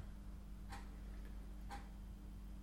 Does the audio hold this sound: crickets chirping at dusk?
no